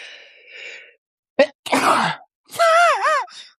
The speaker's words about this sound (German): Doch, das musste schneiden, weil das, warte, ich muss noch mal niesen.